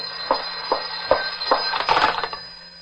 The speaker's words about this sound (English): The phone is driving me crazy. All right, answer it. I'll take the tape off. No, let it ring.